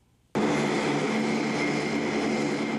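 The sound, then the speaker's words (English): A loud, steady roar of large military transport plane engines cuts in abruptly after a brief quiet moment, droning continuously with a faint tonal hum and no voices. The transport planes brought about 130 U.S. Army paratroopers to Estonia on Monday, part of a NATO show of force in Eastern Europe. “Transport planes brought about 130 U.S. Army paratroopers to Estonia on Monday, part of a NATO show of force in Eastern Europe.”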